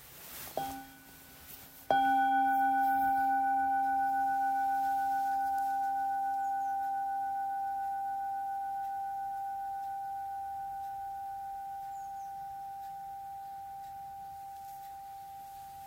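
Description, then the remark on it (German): A soft tap, then a single clear bell strike whose bright, steady tone rings on and slowly fades over more than ten seconds. No voices are heard. “Wir hören einen Klang der Glocke und lesen dann den zweiten Vers.”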